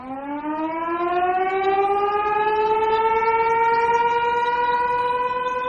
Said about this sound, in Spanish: Son las 2 del mediodía y un sonido me recuerda que las fábricas siguen vivas. Suena el sonido de una sirena, cambio de turno.